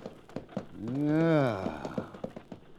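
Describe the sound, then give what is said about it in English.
A horse-drawn stagecoach approaches with a steady, brisk clip-clop of hooves, and a long tonal cry, likely a horse, rises and falls partway through. “There's a stagecoach coming.”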